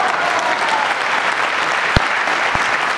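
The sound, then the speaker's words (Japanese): A crowd applauds steadily at a gathering after a speech urging everyone to work for an election victory, a dense, continuous patter of clapping with a couple of sharper claps standing out near the end. “さすがベテランなんかどんどん盛り上がって楽しいうちに笑いの 一拍手のうちにこの会が終われるなんて最初の頃を考えると想像でしますね”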